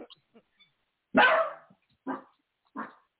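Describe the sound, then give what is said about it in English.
A dog barks three times, a loud, drawn-out first bark followed by two shorter ones spaced about a second apart, with faint background murmurs. “That's, you know, he's the alarm dog.”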